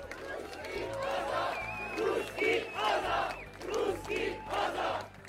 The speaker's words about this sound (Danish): So this is Hungary. Der råb i gaderne. I 1956 råbte ungarerne russere, tag hjem, og det råb klinger nu igen i gaderne.